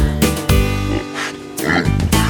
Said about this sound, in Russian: решили спеть дуэтом ворона и свинья. Послушайте, друзья.